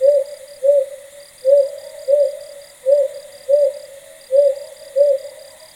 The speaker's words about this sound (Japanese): 青葉族の声はホッホッと二声ずつ区切って鳴くのが特徴です。この琉球青葉族も鳴き方は本州のものと変わりありませんが、時々連続して鳴き続けるのが琉球青葉族の特徴と言われています。